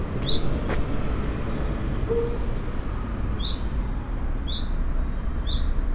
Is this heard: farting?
no